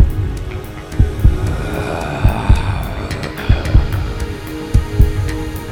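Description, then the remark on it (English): A heavy, throbbing heartbeat pounds out in paired lub-dub thumps, roughly one beat per second, deep over a low, steady hum. “But its heartbeat was greater than that of a man, and its breathing was that of a brute.”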